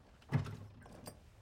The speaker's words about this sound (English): She closes the door.